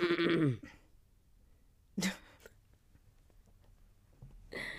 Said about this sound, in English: Let me clear my throat.